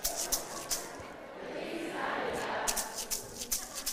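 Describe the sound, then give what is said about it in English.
A maraca shaken in crisp, hissing bursts, a few spaced shakes, a pause filled with murmuring crowd noise, then a quicker rhythmic run of rattles. “I need a maraca for this one.”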